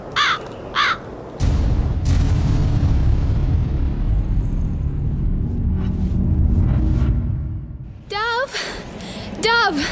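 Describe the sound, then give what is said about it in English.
A long, heavy roll of thunder from an approaching storm swells suddenly and rumbles for several seconds before fading, with crows cawing sharply just before it and again as it dies away. “There is a storm coming. I must close all the windows and bar the door.”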